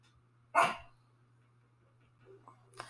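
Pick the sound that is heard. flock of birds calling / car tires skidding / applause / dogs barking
dogs barking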